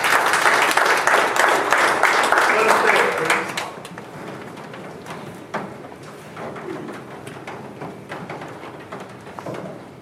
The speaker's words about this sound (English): Give the Lord one more hand of applause.